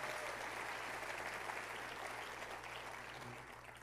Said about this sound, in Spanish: Levantemos un fuerte aplauso a Dios por todo lo que Él va a hacer en ese congreso.